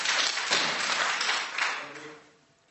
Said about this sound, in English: Please not clap or make any noises. If necessary, I'll just ask you to all to leave. You've got to listen to what's being said, and we must be able to hear it. When you're clapping, his voice is hidden.